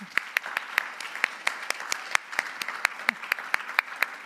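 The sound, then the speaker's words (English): An audience at a church service claps steadily for the new volunteers for a few seconds, a dense patter of many hands with sharper individual claps standing out at an even, moderately loud level, with no one speaking. “So let's give them all a big round of applause, shall we?”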